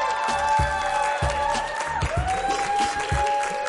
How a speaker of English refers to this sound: Guys, you're in for a treat. Round of applause. Deion Lewis is in the building.